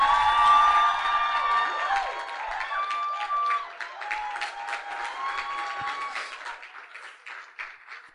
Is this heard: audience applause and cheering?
yes